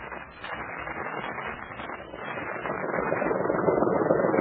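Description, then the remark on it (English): The motor of a Japanese patrol boat on a river drones steadily without pause, a dense buzzing rumble that grows a little louder and fuller toward the end, with no voices. “I never thought I'd be going down a river at the wheel of a Nipponese patrol boat.”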